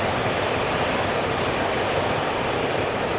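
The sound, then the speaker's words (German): A U-Bahn subway train rumbles along the rails in a steady, loud, continuous roar, unchanging for a few seconds, with no voices. “Behold, U-Bahn.”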